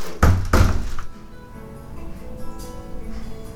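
A door is opened by a man: two heavy thunks in quick succession, like the latch and the door giving way, then a low, quiet room rumble with no talking.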